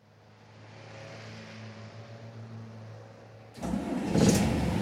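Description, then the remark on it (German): A bus engine idles with a low, steady rumble, then abruptly roars louder and revs up near the end as the bus sets off on a city tour. No one speaks. “Das ist aber ein ziemlich hässlicher Bus”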